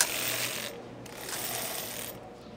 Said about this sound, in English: They're these sort of very heavy, very clunky, very low-tech knitting machines. It looks a little bit like an electric keyboard, only with needles instead of keys.